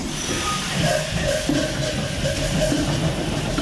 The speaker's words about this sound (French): Ce sont des moteurs de péniche, 375 chevaux. 160 litres de cylindré. En ce moment, on a une consommation d'une cinquantaine de litres de gasoil à l'heure. Alors, je vais essayer de vous le lancer. Ah là, ça va faire du bruit.